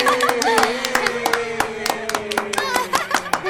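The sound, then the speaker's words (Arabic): A group of friends applauds for a friend with quick, irregular sharp claps throughout, loud and steady, while several voices cheer and call out in sustained tones underneath. “صفقوا لصديقنا محمد.”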